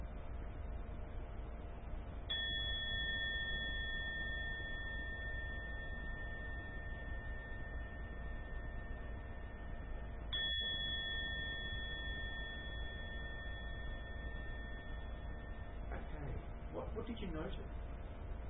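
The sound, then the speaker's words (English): A meditation bell is struck twice during a meditation demonstration, about eight seconds apart, each strike ringing out in a long, clear, sustained tone that slowly fades over a quiet background hum. “I'm going to ring the bell, so you might be shocked.”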